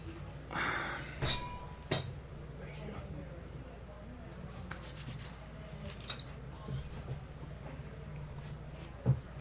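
A wine glass clinks and knocks against a hard surface a few times as it's picked up, with soft rustling and shuffling; no one speaks.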